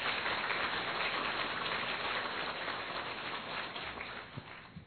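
An audience stands and applauds in thanks to a speaker, a dense, steady wash of many hands clapping that holds at an even, fairly loud level for about five seconds, with no voices over it.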